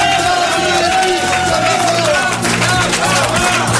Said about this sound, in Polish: To pierwsze słowa Rafała Sonika zaraz po wylądowaniu na warszawskim Okęciu. Zwycięzcę rajdu Dakar powitał tłum fanów.